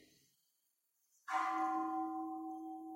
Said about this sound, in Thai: ฟังเสียงระฆังให้สบายใจสิ